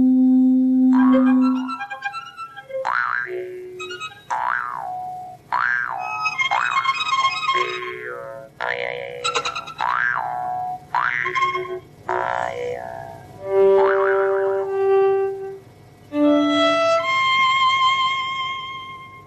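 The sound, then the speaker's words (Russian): Musicians' fingers, wetted with a little water, rubbed around the rims of large IKEA red wine glasses produce a sequence of sustained, ringing tones at shifting pitches, some low and steady, others higher and bending, with no voices. “Они зачерпывают понемножечку водички и вот так вот по нему водят мокрым пальцем.”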